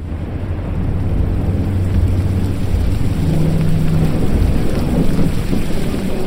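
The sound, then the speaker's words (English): A thunderstorm faced by a fishing vessel for three days and nights: heavy rain hisses steadily while deep, loud thunder rolls and rumbles underneath, filling the whole stretch with no voices. “We were against the storm for 3 days and three nights before our fishing vessel, the Portland's Pride, finally sank.”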